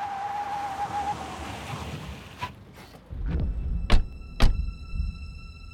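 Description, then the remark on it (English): Car doors slam outside in a parking lot, three sharp thuds a second or so apart, over a steady windy rush of outdoor noise. No one speaks. “Something inside told me those car doors meant trouble, and trouble would soon be on its way up the stairs.”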